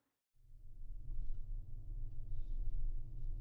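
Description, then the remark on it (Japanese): A large night bus engine turns over and settles into a steady, heavy low rumble, continuous, with faint higher hisses drifting above as the bus prepares to depart. “あ、もう出発するみたいだね。ワクワクしてきた。でも夜行バスだし、静かにしないといけないんだよね。”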